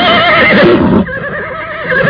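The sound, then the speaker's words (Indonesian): A horse neighs loudly, a strong shrill whinny that dips briefly then continues in a wavering, quieter trail. No voices are heard. “Seekor kuda hitam yang gagah meringki keras ketika laki-laki setengah tua itu melompat ke punggungnya.”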